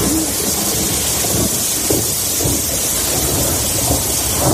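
Heavy rain pours down in a dense, steady roar, with deep thunder rumbling low beneath it throughout, in the provinces of Castellón and Valencia, Spain, from around 10 o'clock. No voices are heard.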